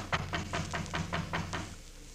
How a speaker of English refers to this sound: Yeah, we gotta let Doc know we're here some way or other. I reckon it won't hurt nothing to tap on the door sort of gentle.